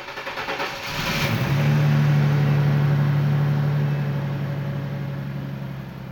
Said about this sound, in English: With neither his wife nor his mother completely sure of where he was headed, Winston headed back out the door, tossed his bag into the back of his white Chevrolet Corvair, and drove off.